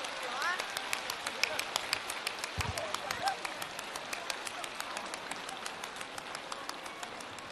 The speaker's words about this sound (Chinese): 我们再一次用最热烈的掌声，感恩大慈大悲的观世音菩萨，感恩大慈大悲的卢军宏台长。